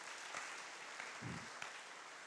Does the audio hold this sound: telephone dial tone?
no